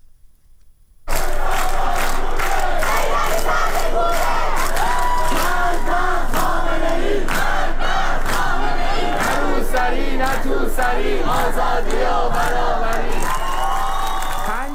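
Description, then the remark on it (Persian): A loud crowd of protesters at a night demonstration in Tehran, Iran, on a Thursday, shouts and chants together, voices rising in overlapping bursts with scattered whoops, a dense continuous roar that starts abruptly after a second of near silence. “تظاهرات شبانه در نقاط مختلف تهران از جمله در نارمک و شهرک چیتگر روز پنج شنبه نیز ادامه یافت.”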